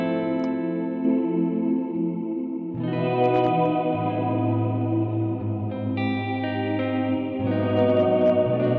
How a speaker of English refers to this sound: So, then we've got one called Shimmer or Chorale. Chorale. Yeah, so Chorale is a, it's like having a choir kind of mixed into your reverb.